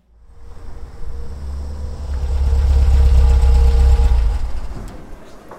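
A car engine idles with a steady low rumble, swelling in loudness through the middle before easing off slightly near the end; no voices are present.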